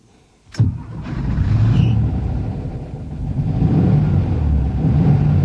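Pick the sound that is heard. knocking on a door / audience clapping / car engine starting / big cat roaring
car engine starting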